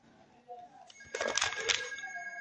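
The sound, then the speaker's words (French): A telephone rings, unanswered, during a sermon, with a bright, rattling bell burst that holds a steady high tone, clear over a faint background murmur. “Je ne peux pas aller au téléphone, il y en a toujours pour essayer.”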